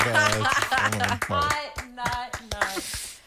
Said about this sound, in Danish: Skal vi så ikke give dem et bifald?